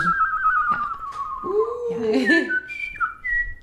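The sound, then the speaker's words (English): A person whistles a birdlike call: a long, gently falling tone, then a lower warbling phrase, ending in several short, bright, high chirps. The whistling is clear and fairly loud. “I love to whistle. I do. I do any type of bird.”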